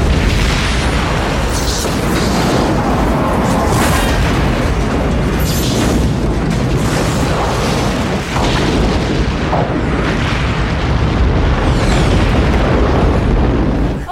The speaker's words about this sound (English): I mean, they used the bird of prey explosion everywhere.